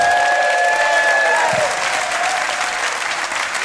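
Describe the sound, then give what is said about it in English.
Steady, dense audience applause welcoming guest Stephen Grant, a continuous clatter of many hands clapping at an even loudness, with a couple of faint whistle-like tones over it early on. “Will you please welcome Stephen Grant, ladies and gentlemen.”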